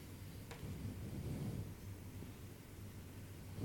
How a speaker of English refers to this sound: You're the one that causes the sky to open up and this rain to fall, and we have no control over it, but you are God, and you do all that you please to do.